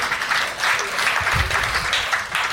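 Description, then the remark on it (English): Audience applause fills the whole stretch, a steady, dense patter of many hands clapping at once, moderately loud, with no voices breaking through; at least half of the people present are applauding. “And at least half of the people here applaud that.”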